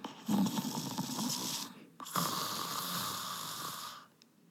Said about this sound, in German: Stille. Nur aus der anderen Zimmerecke kam leises Schnarchen